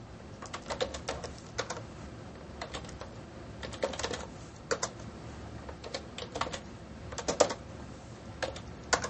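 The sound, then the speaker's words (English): Rapid clusters of light, clicky keystrokes on a computer keyboard as someone types a list of things for a barbecue, using keyboard shortcuts such as shift tab, typed in uneven bursts with short pauses between them, fairly quiet over a low steady background hum. No one speaks. “And keyboard shortcuts are there. So I can just do a shift tab, and I can start going to the next item.”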